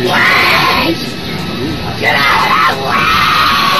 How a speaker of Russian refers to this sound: В общем, итак, вот как она кричит.